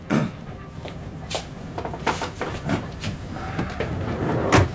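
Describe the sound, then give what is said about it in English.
A train with passenger compartments rumbles steadily along its tracks toward the frontier, with irregular clanks and knocks from the carriages breaking through the low, continuous roar. “Thought you said this train arrived at the frontier at 4 a.m.”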